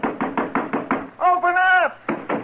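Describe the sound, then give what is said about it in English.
A quick run of about six firm knocks on a house door, a voice calling out briefly over a low hum, then two more knocks. “Go ahead and knock.”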